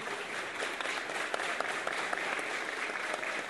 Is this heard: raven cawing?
no